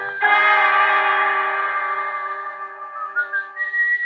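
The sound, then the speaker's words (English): An elevator boy whistles in an empty building at 2 o'clock in the morning: a loud, sustained whistled tone holds steady for several seconds, then wavers and breaks into a few short, rising notes toward the end. No one speaks. “And then I heard the whistling.”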